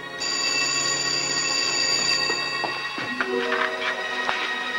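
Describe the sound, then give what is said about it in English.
A telephone rings with a sustained, bright, metallic tone that fills most of the moment, then gives way to a few soft clicks and shifting tones near the end. “takes a few steps, then hurries to the phone.”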